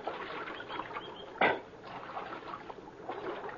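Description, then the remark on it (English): Steady splashing and gurgling of water at Little Creek, with one sharper splash midway, as riders who have climbed down from their horses get a drink of water; no voices. “And we climbed out from our horses and got a drink of water.”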